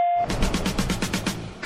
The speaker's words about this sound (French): Au bip, vous laissez votre message. Joindre n'est pas disponible. Veuillez laisser votre message après le bip.